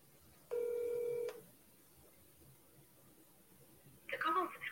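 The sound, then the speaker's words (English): A single steady, buzzy telephone ring tone of an outgoing call lasts under a second, followed by a stretch of near silence; the call goes unanswered. Then a person starts speaking. “People better answer their dang phones.”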